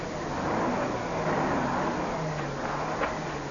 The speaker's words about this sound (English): Hey, he's stopping there up the road. Yeah, he's going to come back. I thought a truck couldn't turn around on this narrow road. A record can. It's only got a short wheelbase.